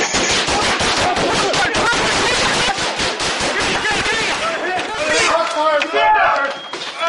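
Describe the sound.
Rapid bursts of gunfire crack out in quick succession, loud and sharp, with shouting voices mixed in throughout the chaotic exchange.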